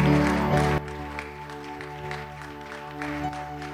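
Applause from an audience at First Apostolic Church of Sam as a preacher is welcomed to the pulpit: a dense wash of clapping that is loud for the first moment, then drops and continues more softly over sustained organ or keyboard tones.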